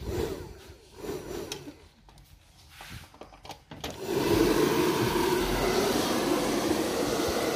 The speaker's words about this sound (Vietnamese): Máy sấy tóc 2 chiều 3.500W. 2 chiều là có chiều nóng và chiều lạnh các bạn nhé.